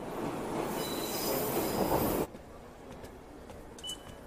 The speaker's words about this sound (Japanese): 2番線電車参ります。黄色い線の内側に下がってお待ちください。